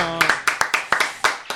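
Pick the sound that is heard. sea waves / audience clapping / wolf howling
audience clapping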